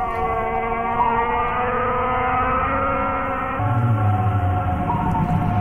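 whale vocalizations

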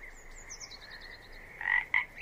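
frogs croaking

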